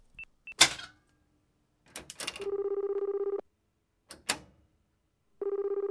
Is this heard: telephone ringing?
yes